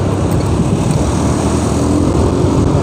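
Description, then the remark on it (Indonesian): Steady, loud engine and road noise fills the whole stretch, a continuous low rumble with wind-like hiss, from riding along on a motorcycle, with no voices. “Capek juga ya kajian di motor.”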